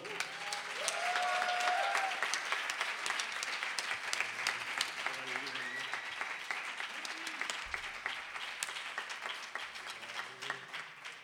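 A crowd applauds steadily for about eleven seconds, a dense wash of many hands clapping that swells early and then holds loud before easing slightly, with faint voices underneath.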